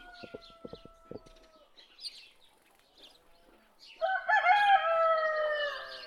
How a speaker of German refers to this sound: Oh weh, der Hahn. Ich habe das Gefühl, dass der anstrengend sein kann. Ich glaube, er ist etwas zu sehr von sich überzeugt. Er geht voller Überzeugung auf und ab.